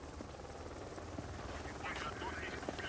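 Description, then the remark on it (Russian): A helicopter's engine whines steadily while its rotor chops in a low, rapid rhythm, a loud, continuous roar, with faint voices briefly surfacing beneath the noise. “Вертолет готов?”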